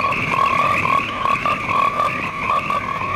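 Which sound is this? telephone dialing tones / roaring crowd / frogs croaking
frogs croaking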